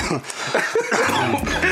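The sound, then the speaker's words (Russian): A man chokes, coughing and sputtering in a short fit of several rough bursts, with faint background voices. “Это я поперхнулся.”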